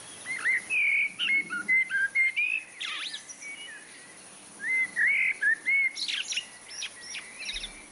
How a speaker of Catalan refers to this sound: Doncs bé, això era el preciós i melòdic cant de la merla. La merla té aquest cant melòdic molt potent. Si ens trobem una merla cantant així a prop, realment et pot arribar a fer mal a l'oïda, diguem-ne,